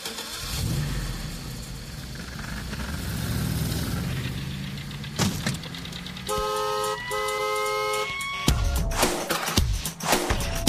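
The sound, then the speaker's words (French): Car horns, reportedly recorded from a car, honk in steady, stacked tones over rumbling engine and traffic noise, sampled and arranged rhythmically in an album track, with bursts of revving and sharp cuts between sections; no one speaks. “Et il y a un morceau qui est fait avec des klaxons et des bruits de bagnole.”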